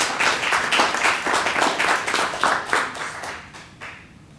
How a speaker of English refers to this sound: Round of applause.